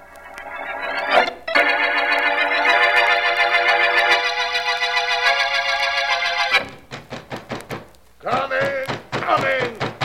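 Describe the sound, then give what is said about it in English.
A sustained, organ-like chord fades into a quick series of firm knocks on a door at night, about eight raps in a row, followed by a person starting to speak. “On that door at this hour of the night?”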